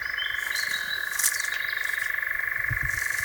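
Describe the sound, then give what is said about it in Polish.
A European nightjar (Caprimulgus europaeus) churs in a steady, unbroken mechanical trill, a rapid dry purring that runs through the whole stretch at even volume, with faint outdoor night ambience and a brief chirp behind it. “Skąd nazwa lelek? Prawdopodobnie od jego trykoczącego odgłosu”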